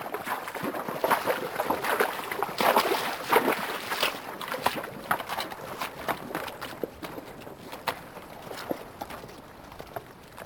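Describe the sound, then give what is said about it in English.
Horses' hooves splash and thud unevenly through a shallow mountain stream, with a steady wash of moving water underneath; the steps are continuous, and no one speaks. “the wide open country under a brilliant blue sky, the horses beating the ground with their hooves and picking their way across mountain streams.”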